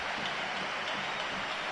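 A stadium crowd at a football match between Villarreal and Atlético de Madrid applauds during a Madrid double substitution in the second half, with Villarreal leading 5-1, in a steady, dense wash of clapping that holds at an even level throughout, with no voices standing out.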